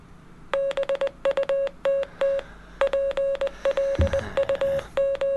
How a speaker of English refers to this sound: Is that Morse code? That is Morse code, but now you have to guess. I only know SOS.